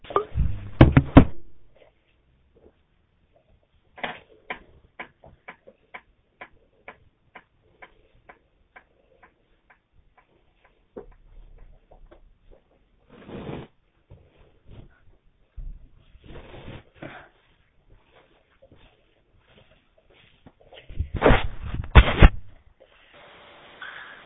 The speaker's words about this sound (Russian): я так понял, что это вроде минуты молчания. Тиканье часов я услышал, спасибо.